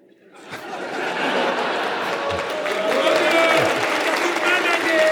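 A crowd breaks into sustained applause after a brief quiet moment, the clapping building quickly and staying loud and dense, with scattered cheers and whistles mixed in.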